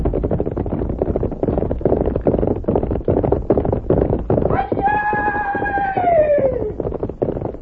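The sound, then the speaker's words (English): Horse hooves clip-clop in a quick, steady rhythm throughout, and partway through a horse lets out a long, falling whinny over the hoofbeats. “You get on horse. We go meet fellow who come.”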